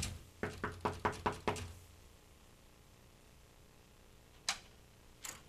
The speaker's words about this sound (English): He knocks on your door like that, you're going to do one of two things, friend.